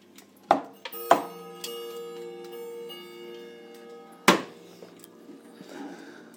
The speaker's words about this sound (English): Those chimes never to be heard again properly. Okay, I'll have to leave it for now and see if it starts. Sounds okay, actually.